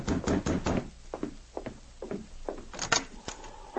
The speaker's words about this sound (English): A moment later, someone knocked on the door.